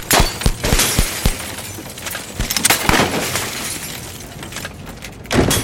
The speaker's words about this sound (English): Glass from the high-rise building shattered all around them as they whizzed by.